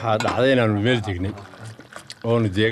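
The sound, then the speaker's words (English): Sweet tea pours into metallic cups in Somaliland with a soft, trickling splash, most audible in a short gap between stretches of a man's voice talking. “As sweet tea is poured into metallic cups”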